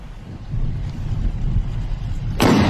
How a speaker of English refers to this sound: It is as he is driving. Watch. Simultaneously with the firing of a cannon.